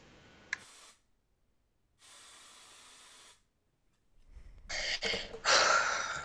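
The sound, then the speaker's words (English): Axe aerosol body spray hisses in bursts: a quick puff, then a steady two-second spray, then louder, sputtering sprays to finish. There are no voices. “Spraying that axe everywhere, you know?”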